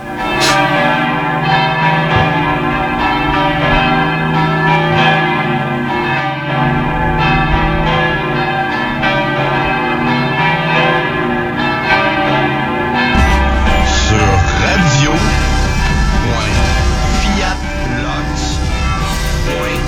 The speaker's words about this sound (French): les belles cloches de l'église Saint-Jean-Baptiste.